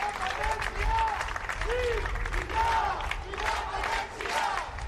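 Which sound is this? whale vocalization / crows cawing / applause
applause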